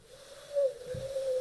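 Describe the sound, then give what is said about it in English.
A long, steady mid-pitched hooting tone, likely a voice imitating an owl, holds for over a second at moderate loudness with no talking over it. “An owl. Do you hear that owl?”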